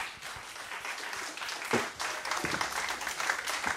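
A festival audience applauds a singer steadily during a live public radio broadcast, a dense patter of many hands clapping at once, sustained throughout without any voices standing out.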